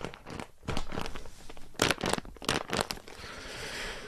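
Crinkly plastic crackles and rustles as a wrapped package of about one kilo inside a bag is pressed repeatedly, with sharp bursts of crunching noise in an irregular rhythm, fading into a steady hiss at the end.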